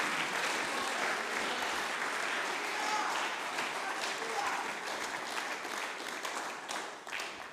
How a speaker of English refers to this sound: Can you just give Him a big hand clap and shout of praise?